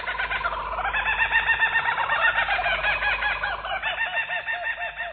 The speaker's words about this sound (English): Yep, Australia's laughing kookaburra is a member of the kingfisher family. And it's been known to dispatch snakes up to 3 feet in length.